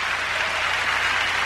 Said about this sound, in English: stand and clap